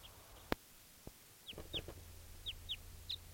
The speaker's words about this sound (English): That was a bird. Just flew over.